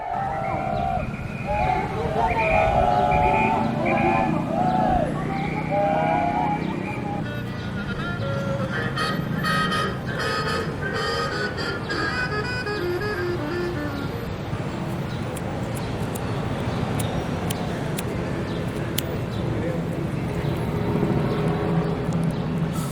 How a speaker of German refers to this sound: Die Megametropole Mexiko-Stadt an einem Mittwochmittag. Alles wie immer. Straßenlärm, eine Demo gegen gewaltsam Verschleppte, Händlerinnen und Händler verkaufen ihre Ware.